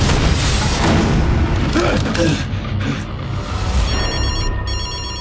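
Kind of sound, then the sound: household object, telephone ringing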